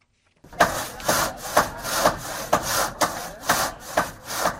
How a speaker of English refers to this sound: The sounds of hammers and saws in Haiti signal some progress a week after Hurricane Matthew struck the island, killing hundreds.